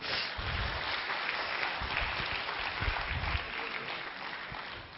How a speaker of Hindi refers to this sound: Thank you very much, sit down, अपने लिए तालियां बजाओ।